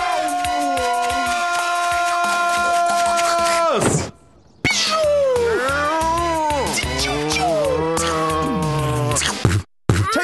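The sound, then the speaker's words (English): Loud cat yowling and meowing, with long drawn-out wails that bend up and down in pitch, broken by one short pause midway and a brief gap near the end. “Prepare to meet my venomous hench beast, Slut Cat!”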